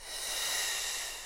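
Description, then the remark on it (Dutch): A steady, breathy exhale pushed through a loud F sound during a breathing exercise, breathing out until the lungs are empty: a continuous hissing rush of air lasting just over a second, evenly sustained, with no talking. “En ga door met een luide F.”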